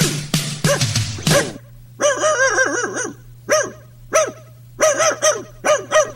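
A dog barks: a quick flurry of rough, harsh barks, then a string of about half a dozen higher, whiny yelping barks with short pauses between them, over a faint steady hum.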